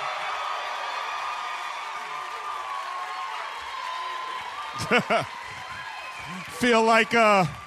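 crowd cheering

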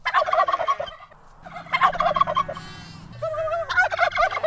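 heritage turkeys gobbling

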